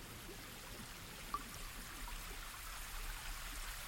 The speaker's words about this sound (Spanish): El sonido del agua te invade. Cuando llegas ahí, ves frente a ti una enorme cascada.